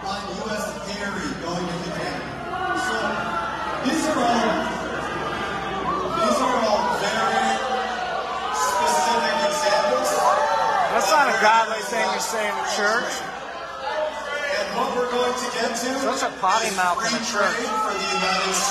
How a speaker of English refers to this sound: Check out this clip of Brian Mast getting booed when he brings up tariffs.